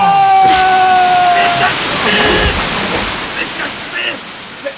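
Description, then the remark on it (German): Rough sea waves surge and crash in a continuous loud roar, with a high whistling tone riding over the opening moments and faint voices mixed into the churning water. “Niemand kann in so einer See schwimmen!”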